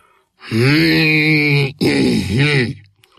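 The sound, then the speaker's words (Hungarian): A voice imitates the storybook character Mirmúr grumbling to himself while adjusting his glasses and clearing his throat: one long droning groan, a brief break, then a second wavering, throaty grumble. Loud, with no clear words. “Mirmúr dünnyögött magában, a szemüvegét igazgatta, a torkát köszörülte.”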